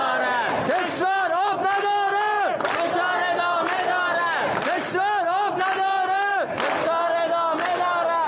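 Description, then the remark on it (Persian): A large protest crowd in Iran chants slogans against the Islamic Republic in loud, rhythmic unison, voices rising and falling together in a phrase repeated roughly every two seconds, with sharp shouted bursts punctuating the chant. “شعار علیه جمهوری اسلامی و شلیک ماموران امنیتی.”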